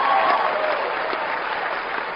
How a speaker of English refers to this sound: Are you excited about the opportunity to fix this country? I want to hear loud applause, no applause.